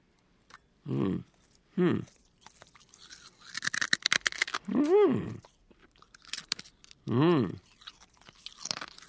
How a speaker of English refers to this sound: chewing up the glass and swallowing is the easy part of this stunt